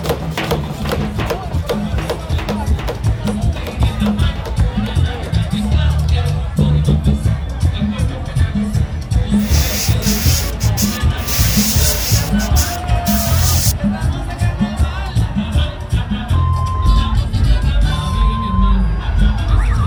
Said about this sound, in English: That was Monocle's Ed Stocker's sounds from Carnival in the Dominican Republic, including a car alarm being set off, masks being painted, sound systems and percussion, among other things.